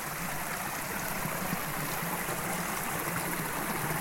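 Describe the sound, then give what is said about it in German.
The Dosbach, a mountain brook fed from all sides by small streams, rushes steadily over stones a few metres beside an alpine hut, a continuous bright burble of flowing water with no voices. “Nur ein paar Meter neben der Alphütte fließt der Dosbach durch.”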